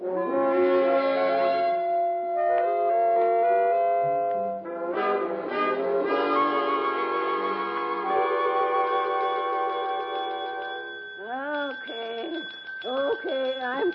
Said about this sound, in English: I'm coming. Sick and tired. I'm sleeping and hearing the bell.